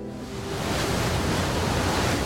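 boat cruising on water

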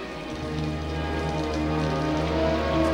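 rain falling

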